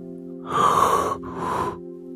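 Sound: yawning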